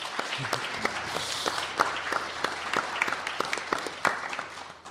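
A room full of people applauding steadily, many hands clapping at once in a dense, continuous patter with occasional sharper claps standing out, moderately loud and without speech.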